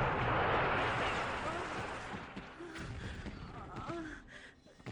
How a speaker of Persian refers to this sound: داشتم خشاب اسلحه‌ای رو که گیر کرده بود درست می کردم که صدای انفجاری دنیا رو جلوی چشم سیاه کرد. دوباره موج انفجار با صورت پرتم کرد یک گوشه.